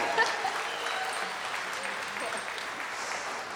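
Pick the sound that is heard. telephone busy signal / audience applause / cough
audience applause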